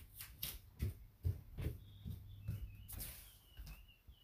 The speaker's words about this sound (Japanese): 小鳥のさえずりが聞こえるね。